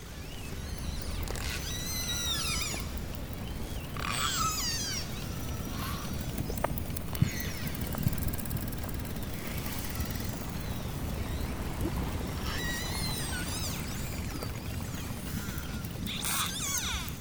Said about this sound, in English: This is the snap, crackle and pop of pistol shrimps, occasionally with the sounds of grunting cod.